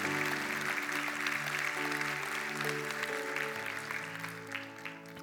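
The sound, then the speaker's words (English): An audience claps steadily for God, a dense crackling wash of many hands over sustained keyboard chords that hold throughout, the applause easing slightly toward the end. “Give him a hand clap, amen.”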